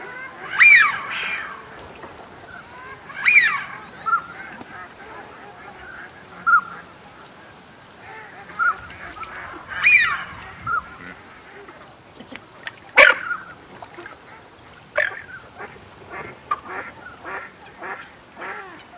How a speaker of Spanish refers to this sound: Se acerca un macho de ánade silbón.